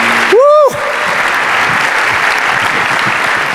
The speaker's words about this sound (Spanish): Aplauso. Si es para el Señor, que se oiga ese aplauso.